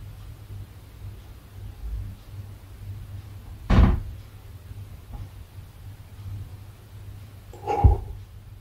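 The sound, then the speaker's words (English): Two separate knocks and rattles on a door, about four seconds apart, break the quiet over a steady low hum. Each is short, and no one speaks. “Sounds like someone's trying to open this door.”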